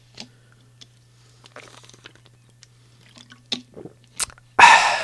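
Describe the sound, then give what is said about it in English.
Someone sips and swallows water from a glass, with soft wet mouth clicks and gulps over a low steady hum, ending in a sudden loud clunk. “I need a drink of water.”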